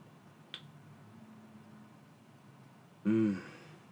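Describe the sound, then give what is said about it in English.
A faint click, then a quiet pause, followed by a short, loud slurping sip of hot black coffee, an Americano (espresso in hot water), lasting about half a second, with a throaty, tonal edge. “And so I'm going to just take a sip of this sweet, delicious black gold right here and then continue on with the show.”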